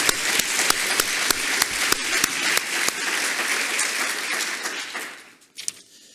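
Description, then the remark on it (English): A Cornell council audience applauds itself loudly, dense overlapping claps forming a steady wash of sound for about five seconds before it quickly dies away, leaving a few scattered claps. “So let's give ourselves a round of applause here.”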